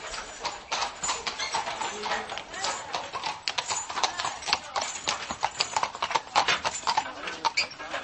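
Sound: horse hooves clip-clopping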